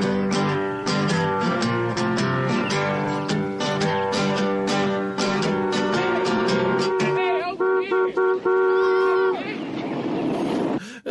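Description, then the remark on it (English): A stuck car horn on a 1960s car in Florida blares loud without letup, a sustained brassy tone that wavers and shifts in pitch for several seconds before cutting off near the end. “My horn just doesn't stop honking.”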